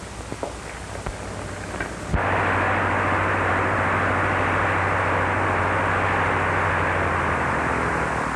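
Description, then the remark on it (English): Jim Lofton's propeller airplane, on a test flight for a Department of Commerce inspection, roars overhead, its engine drone suddenly swelling after about two seconds into a loud, steady, rumbling wash of noise that holds to the end. No one speaks. “That's Jim Lofton's plane, isn't it?”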